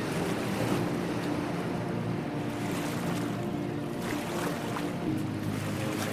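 Rough ocean water surges and churns steadily around a small paddled boat circling a humped landmass that reaches far into the ocean, a constant loud wash of waves with gusty wind noise and occasional splashes, no voices.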